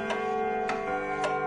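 A mechanical alarm clock ticks three times at an even, steady pace, each tick a sharp, bright click, over a constant low humming drone.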